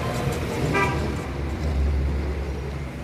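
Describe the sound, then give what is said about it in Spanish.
Steady street traffic rumbles throughout, and a car horn gives one short, fairly loud toot near the start before the road noise carries on alone. “Cruza la calle con su andadera, por un momento se tambalea y tiene miedo de estamparse contra el tráfico.”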